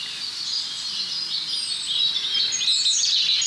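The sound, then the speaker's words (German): A robin, the fourth one heard, sings a tumbling, high-pitched warbling song, with a great tit calling behind it, over a steady faint hiss; no one speaks. “So, wir haben die 3 Rotkehlchen jetzt hinter uns gelassen und hier sind wir jetzt schon beim 4. Dahinter die Kohlmeise.”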